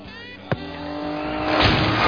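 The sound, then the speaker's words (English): A car engine hums steadily, with a sharp thud early on, then the motor noise swells louder and rougher as the vehicle speeds up. It is Quimby's car in an animated scene, jumped into while moving. “No, I recommend that all children try that, jumping into a moving car.”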